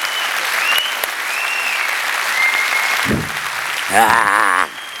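audience applause

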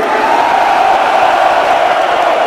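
concert crowd screaming

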